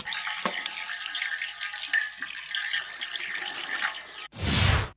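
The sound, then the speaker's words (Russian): Water pours and splashes steadily from a horse-shaped monument fountain for several seconds, a dense bright rushing sound with no voices, ending in a short, louder whooshing gush. “Когда прозвучит фраза, и пусть она струится в душе каждого истинного германца, из лошади польется вода.”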